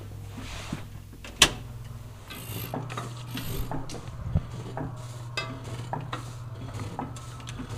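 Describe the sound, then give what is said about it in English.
An air-fed printing press with an air pump runs with no paper loaded, giving a steady low hum, rhythmic hissing puffs of air and repeated metallic clicks and clanks, starting with one sharp loud clack. No one speaks. “It makes an interesting sound because it's air-fed, and it has an air pump.”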